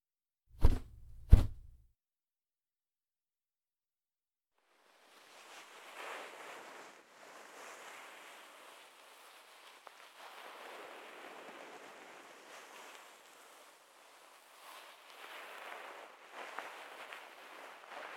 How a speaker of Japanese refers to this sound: 泡がだいぶ減ってきましたね。最後に温かいタオルでお耳の泡を拭き取っていきます。